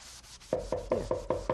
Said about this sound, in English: I've always liked drawing with chalk because once you've drawn something and you want to erase it, you can. This is an eraser.